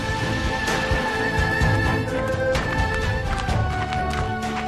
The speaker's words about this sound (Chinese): 这个时候远方忽然传来一阵脚步声，他心底雀跃万分，如果不是全身无力的话，他肯定会跳起来大声的叫，我有救啦。